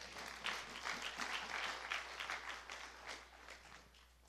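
An audience breaks into steady applause for the Lord during a sermon, many hands clapping together in a dense, continuous patter that holds at a fairly even level for several seconds, with no voices over it.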